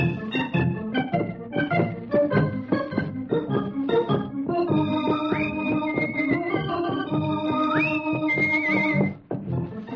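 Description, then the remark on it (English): A lively instrumental theme for Rusty Riley, with a brisk, galloping rhythm, gives way to sustained chords and a couple of sliding whinny-like notes, played loud, then cuts off near the end. “Gallop and run till the road is dusty. Give us music for his horse and Rusty.”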